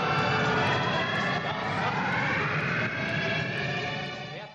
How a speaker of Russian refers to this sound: прозвучала именно так, как она звучит в фильме «Москва Кассиопея» с запуском двигателей стартующего космического корабля.